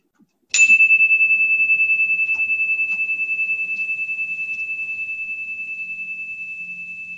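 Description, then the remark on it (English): A bright prairie chime rings out with one sharp strike, then a few softer taps as its clear, high tone lingers and slowly fades with a gentle shimmering pulse. No one speaks. “Here's the prairie chimes.”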